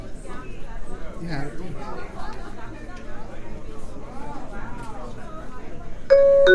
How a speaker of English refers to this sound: Press the dot in the lower right corner until you hear a different chime sound.